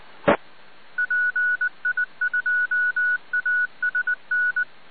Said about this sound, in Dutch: ga mijn telefoon weer af.